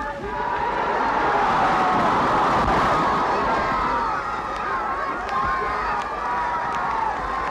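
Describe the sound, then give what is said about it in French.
Several thousand people gathered in front of the city hall in Paris roar and cheer continuously as a marshal greets them, a dense wash of many voices at steady, loud volume throughout, with individual shouts rising out of the mass. “Plusieurs milliers de personnes se sont agglutinées devant l'hôtel de ville.”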